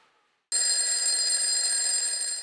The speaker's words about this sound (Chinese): 闹钟响了起来，琪琪从这个可怕的梦里醒来